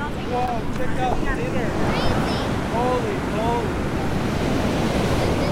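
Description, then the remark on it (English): A steady, loud wash of surf and wind fills a small, windy beach at Maury Point in Pacifica on a hot April day, without letup, with faint, brief higher-pitched calls or voices rising over the roar. “It's April, and I'm at a small beach in Pacifica called Maury Point. It's hot, a little windy, and definitely fishy.”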